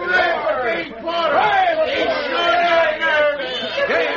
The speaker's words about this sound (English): How they're cheering for you